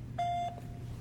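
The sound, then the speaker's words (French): A single steady electronic beep, a clean mid-pitched tone lasting about a third of a second, sounds clearly over a faint low background hum: a voicemail beep following a French message that the person cannot be reached and asking the caller to leave a message after the beep. “La personne que vous essayez de joindre n'est pas disponible. Veuillez laisser votre message après le bip.”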